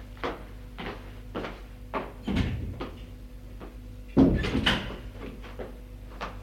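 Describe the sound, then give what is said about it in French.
A woman opening a door to a bedroom: a run of soft latch clicks and rattles, then two heavier wooden knocks and scrapes, over a steady low hum with no talking. “Elle ouvre une porte.”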